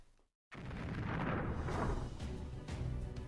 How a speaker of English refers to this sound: Oh God, that has to be the fakest explosion I've ever seen in my entire life. No, I mean, of course I haven't seen that many explosions to accurately tell an explosion is real or fake, come on.